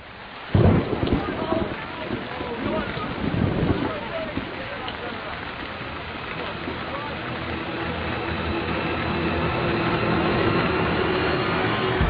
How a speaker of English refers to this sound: And then it started to rain